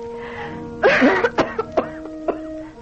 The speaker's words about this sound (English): My cough, having failed to respond to treatment and having been diagnosed as consumption, I write this last will and testament.